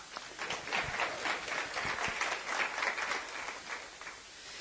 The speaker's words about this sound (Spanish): Muy bien, otro aplauso.